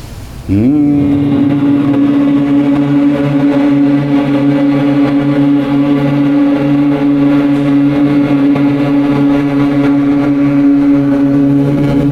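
A steady, low-pitched human hum held for about eleven seconds after a brief rise at the start, rich in harmonics and unbroken, with no talking. It is a sustained humming breath exercise imitating a bee, made further back in the palate and throat rather than at the lips.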